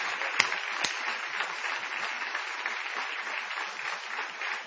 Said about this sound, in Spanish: Vamos a aprovechar el envión de estos aplausos para dirigirlos a Patricio Barton.